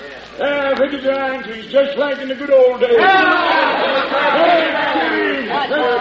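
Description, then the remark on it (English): A crowd of townsfolk gathering in a little town, many voices overlapping in a loud, continuous clamor of shouting and murmuring that swells and stays steady throughout. “The minute that crowd finds out it's Gold Henry's up there for, they'll forget all about him.”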